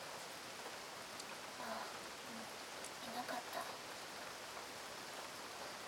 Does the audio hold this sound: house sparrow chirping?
no